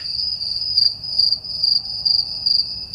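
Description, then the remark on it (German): A field cricket chirps in a fast, high-pitched trill, its pulses repeating in regular bursts about every half second, steady with no other sounds. “Das ist ein sehr hoher Triller. Ton jetzt und sehr schnell.”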